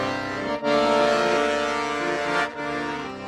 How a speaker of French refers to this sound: Et nous, les sirènes du port, on chante tout le temps.